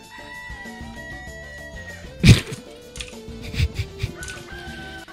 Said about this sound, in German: Die Gitarren und der Hahn im Einklang.